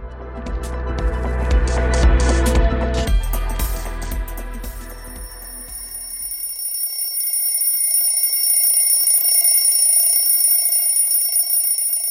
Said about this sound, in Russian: Затрещал будильник. Рука решительно отключила звонок.